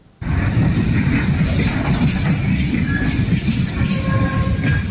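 A heavy, continuous low rumble of Turkey's first freight train rolling along the rails into Xi'an, China, on Saturday, after a 12-day journey from Istanbul via Georgia, Azerbaijan, the Caspian Sea and Kazakhstan. Metallic squeals and faint clinks ride over the steady, loud roar throughout.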